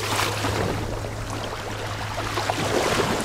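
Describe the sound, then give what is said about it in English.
Soft, steady water sounds of small waves gently lapping against the shore of Lake Victoria in Kenya, continuous, with a low constant hum underneath and no voices. “Waves are gently lapping up onto the shores of Kenya's Lake Victoria.”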